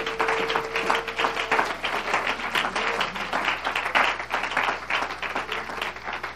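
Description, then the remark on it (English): A church audience claps for the Lord steadily throughout, a dense wash of many hands forming a loud, continuous patter with faint crowd murmur and a brief sustained tone beneath it. “Would you clap unto the Master?”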